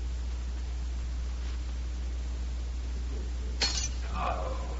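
A wine glass drops and shatters with one sharp crash, followed by a brief tinkle of pieces settling, against a steady low hum of background noise.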